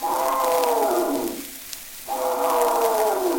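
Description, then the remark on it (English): A little clown elephant at a circus trumpets twice while its trunk is being held, each long, loud, brassy blast sliding downward in pitch, with a short quiet gap between them; no talking. “Oh, gee, what's the matter with that little clown elephant? They're holding on to his trunk.”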